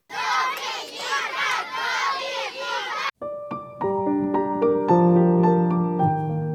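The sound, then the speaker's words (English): A crowd of children cheers and shouts excitedly for about three seconds after playing a game, loud, then cuts off as bright plucked musical notes chime in a rising melody. “Give yourselves a little cheer for all your good choices.”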